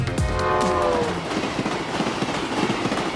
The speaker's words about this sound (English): Prince George residents can identify a familiar sound scraping through the air multiple times a day in our community as trains clack across a landscape and horns blast their alert on the edge of town.